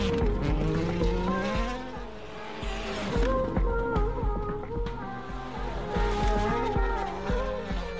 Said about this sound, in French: La voiture, elle redémarre. Peut-être pas, je te fais régir le moteur.